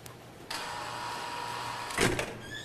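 A secure door opens to let visitors into a unit, with a steady electric whirr that runs for over a second, then ends in a sharper, louder clunk and a brief rattle as it releases.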